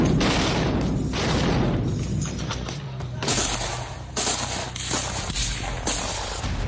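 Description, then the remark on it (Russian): A relentless series of loud explosions and crackling bangs from a struck ammunition depot that also stored pyrotechnics, at night in Kharkiv, munitions and fireworks going off in quick succession, overlapping into a continuous rumbling barrage with no pauses. “Сразу после информации о переходе города под контроль России ночное небо раскрасил салют.”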